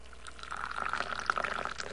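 Hot mint tea, offered as a glass of hospitality at a family home, streams into a glass in a steady, bubbling pour, bright gurgling splashes rising in pitch as it fills, with no voices over it.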